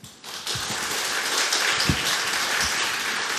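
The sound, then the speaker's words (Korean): Steady crowd applause at a church worship service, welcoming a pastor who will preach the sermon, begins abruptly and holds at an even level throughout, a dense wash of many hands clapping with a few louder individual claps standing out, and no voices heard. “우리 목사님 나오실 때 큰 박수로 환영하도록 하겠습니다.”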